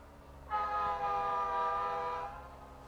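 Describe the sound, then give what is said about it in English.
A train whistle sounds one long, steady blast lasting nearly two seconds, rich and tonal, over a low background rumble, then cuts off. No one speaks. “You hear him whistle, he whistled once there, and how he'll blow across and whistle.”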